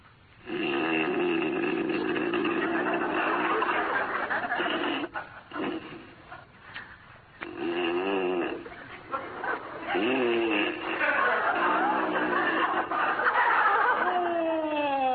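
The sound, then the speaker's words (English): A man snores loudly in bed: long, rasping, throaty snorts with short breathy gaps between them, ending in a rising, whistling snuffle. No talking. “there must be something that'll put a stop to that hideous snoring.”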